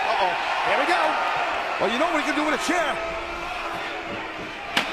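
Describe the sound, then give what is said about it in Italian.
A sharp metallic slam as a steel chair strikes the wrestler Test on the head in a wrestling match cracks out once at the very end over steady crowd roar and an excited voice talking throughout. “Sediata al capo di Test.”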